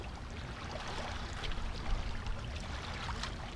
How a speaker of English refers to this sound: Maybe you can hear the water, the sounds of the water up with the rocks.